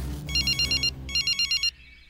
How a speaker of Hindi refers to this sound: Phone की घंटी की आवाज से सार्जेंट सलीम की नींद खुल गई। उसने फोन रिसीव किया।